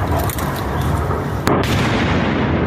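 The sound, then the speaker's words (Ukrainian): A missile strike explosion hitting a headquarters, the missile launched from afar from a ground system or an aircraft: one sharp, loud blast cracks out about halfway through, set against a continuous heavy rumble and roar that persists before and after it. No voices are heard. “Ми к нам в штаб прилетіли.”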